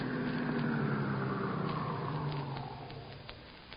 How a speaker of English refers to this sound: Shortly after midnight, the stolen car in which they had driven from Chicago pulled up in front of the spacious Victorian residence where their intended victim lived all alone.